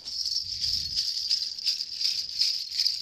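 Small brass bells jingle continuously for about three seconds, a bright, shimmering metallic ringing that swells and pulses in a steady shaking rhythm, with a soft low thump early on.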